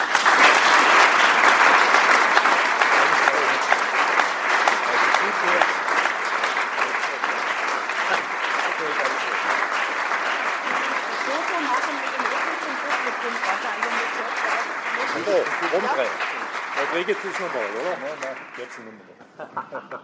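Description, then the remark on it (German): Sustained audience applause for a speaker who presented the history of the town from its archive, a dense wash of many hands clapping at steady loudness for most of the stretch, with some voices faintly emerging near the end as the clapping fades out. “und einen großen Applaus für Sie, dass Sie sich das auch nochmals angetan haben und so in die Tiefen unseres Archives eingegangen sind.”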